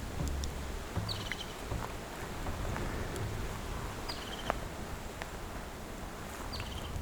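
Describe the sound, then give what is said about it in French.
Calm mixed fir forest ambience: a steady, soft wash of wind and rustling, broken by a few brief, high-pitched bird chirps recurring every few seconds, with no voices. “C'est une forêt mixte, sapinière et très.”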